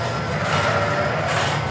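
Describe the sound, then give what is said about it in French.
A milking robot for dairy ewes glides along its rail with a steady mechanical rumble and a faint whining hum, continuous, with no voices. “Nous suivons le robot.”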